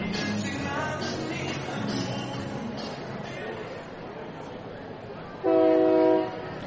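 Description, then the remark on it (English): A steady background of rumbling ambience and crowd murmur at a baseball ballpark, then near the end a train on tracks beside the ballpark beyond center field sounds one loud, sustained horn blast lasting under a second. “Train not so far away in the distance. The train tracks run right beside the ballpark beyond center field.”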